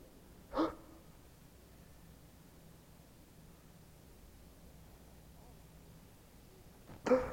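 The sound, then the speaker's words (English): A sharp intake of breath as a person holds it, then about six seconds of near silence over faint hiss, ending in a loud, abrupt gasp for air. “Just try holding your breath. I'm going to try it right now.”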